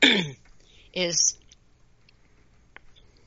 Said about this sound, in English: Excuse me, I'm clearing my throat here.